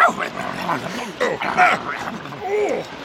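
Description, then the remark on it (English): A dog yips and barks excitedly in quick bursts, its high-pitched cries mixing with people talking over the commotion. “Stop that dog!”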